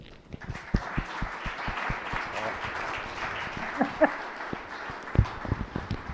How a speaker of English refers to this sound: So with all that, we would like to give a warm applause and welcome to